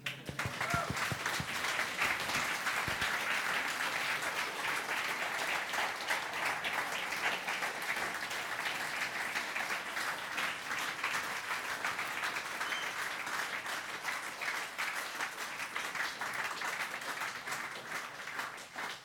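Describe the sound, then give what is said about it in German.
A crowd applauds steadily for nearly twenty seconds at the end of an Easter-time gathering, thanking the singing team: a dense wash of many hands clapping at an even, sustained level with no voices standing out. “Und wenn es euch gefallen hat und wenn ihr dem Singteam sagen wollt, merci, dass ihr euch so Mühe gegeben habt, dann dürft ihr da jetzt klatschen.”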